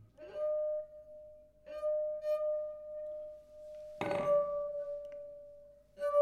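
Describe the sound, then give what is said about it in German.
A half-full glass is tapped lightly several times, each tap giving a clear, sustained ringing tone that lingers and slowly fades, with one harder, brighter strike midway through. “Das ist das halbvolle Glas.”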